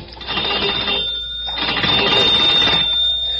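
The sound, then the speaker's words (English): A telephone bell rings loudly, two long metallic bursts with a brief pause between them, and no voices. “I went to the phone.”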